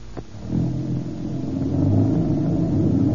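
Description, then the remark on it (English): A car engine catches after a brief click, then settles into a steady rumble that grows slightly louder as the vehicle pulls away. No one speaks. “Some car, all right.”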